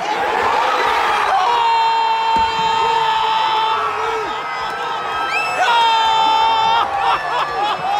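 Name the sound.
stadium crowd cheering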